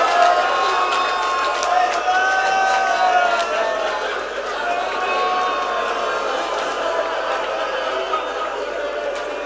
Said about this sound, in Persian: جانم به با غیرت ها که فریاد میزنن.